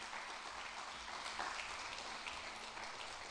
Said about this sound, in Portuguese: Se você crer, dá mais uma salva de palmas a Jesus.